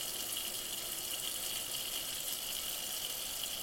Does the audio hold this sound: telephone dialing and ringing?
no